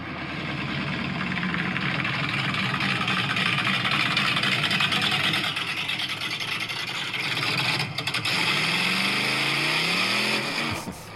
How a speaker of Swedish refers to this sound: Denna motorn har jag byggt alldeles själv. Det är fan sjukt. Jag kommer ihåg, jag visade det motorblocket i bak i Volvon.